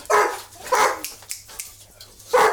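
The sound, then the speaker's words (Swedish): Dogs barking outside: three loud, sharp barks with uneven pauses between them, and a few fainter yips in the gaps. No one speaks. “De får vara ute med hundarna.”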